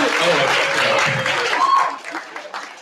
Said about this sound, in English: So, can we all give it a round of applause for everybody that does it? Thank you.